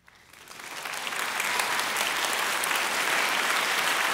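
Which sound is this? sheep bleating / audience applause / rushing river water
audience applause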